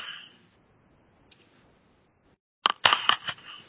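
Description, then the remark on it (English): Loud keyboard typing picked up by a participant's open microphone during an online meeting: after a few quiet seconds, a quick burst of sharp, crisp key clicks, about half a dozen in rapid irregular succession. “Somebody is typing very loud.”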